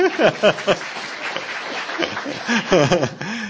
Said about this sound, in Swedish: Ställ upp så alla får en liten applåd till henne. Ställ upp!